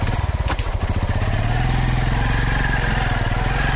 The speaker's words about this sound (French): Au fur et à mesure que Franqué fonce avec sa moto au cœur de cette colline